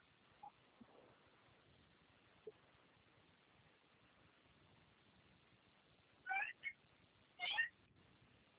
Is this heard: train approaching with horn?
no